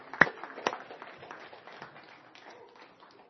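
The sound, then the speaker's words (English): An audience claps hands: two sharp, louder claps open, then many hands join in a dense, steady patter of applause that stays fairly soft and gradually thins. “Give the Lord a great big hand clap of praise, will you?”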